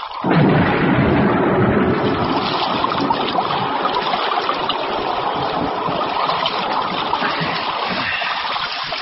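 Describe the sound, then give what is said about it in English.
Steady, loud splashing and churning of water as someone swims across a moat at night, a continuous rushing wash, with no voices. “One drink before we swim the moat.”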